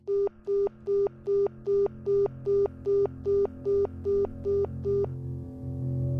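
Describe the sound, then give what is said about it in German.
A telephone rings with a rapid series of about a dozen evenly spaced, clear electronic beeps, stopping abruptly before a low background hum carries on. “Einbrüche der Außenwelt, Störgeräusche wie das Klingeln eines Telefons, können das Schreiben anregen und in neue Bahnen bringen.”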